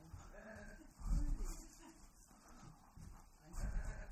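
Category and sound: animal, sheep bleating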